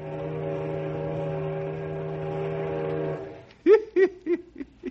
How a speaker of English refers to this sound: Our story today concerns the small riverboats that take tourists from Knotty Pine up to Mirror Lake and the King's Islands. Say, I hear the whistle of a riverboat right now.